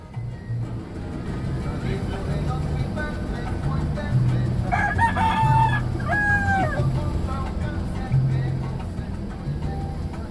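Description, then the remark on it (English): A rooster crows loudly a couple of times in the middle, its strained calls rising over the steady low rumble of a moving bus in Panama, with faint background chatter throughout. “But the funny thing was that rooster was not that happy to be on the bus, and he cock-a-doodle-doo the entire way.”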